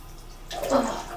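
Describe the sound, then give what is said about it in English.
A brief burst of cold water splashed into a person's face, starting quietly and swelling into a broad wet rush over about half a second before tapering off, moderately loud. “Splash into my face.”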